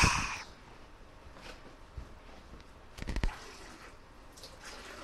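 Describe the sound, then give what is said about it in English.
Water trickles and drips into a sponge in a few soft, brief bursts, with a louder splashy cluster partway through, fairly quiet, with no talking. “Well, I'll go and put more water in your sponge.”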